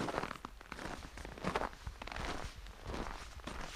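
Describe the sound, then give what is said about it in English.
Footsteps crunch steadily on a hard, snowy floor inside an ice hotel with 3-foot-thick snow and ice walls, 20 degrees below freezing; fairly soft, with a muffled, dead stillness around them and no voices. “The only sound is our own footsteps.”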